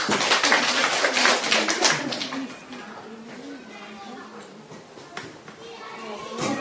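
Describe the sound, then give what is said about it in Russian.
Children's voices chatter and call out while they wait in line at the door, a lively overlapping murmur that is louder at first and then settles into a softer background babble. “Дети стоят в очереди. Ну, вообще, может быть, дети. Они стоят в двери, ждут, пока мы закончим.”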